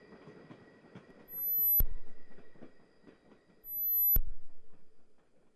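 A train rolls along the rails with a steady low rumble, broken twice by a sharp metallic clank, each followed by a swelling, rhythmic clatter of wheels. No voices.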